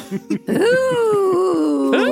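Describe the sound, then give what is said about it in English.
A man vocally imitates a roller coaster: two short throaty bursts, then a long, buzzing, wavering drone that dips and slides before a sharp upward swoop at the end, sounding rather like a revving motorcycle. “It's more of a motorcycle than a roller coaster, but yeah, I like it.”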